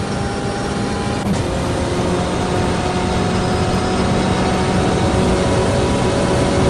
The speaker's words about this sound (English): Bring it all the way up towards the fence there. As we go through NASCAR 1 and 2, have you a little bit of a sound of the BMW M8?